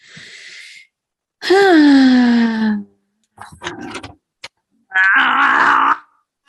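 Someone strains to open a pickle jar: long, pitched groans of effort, then a few short scraping clicks and taps from the lid before another loud, drawn-out grunt.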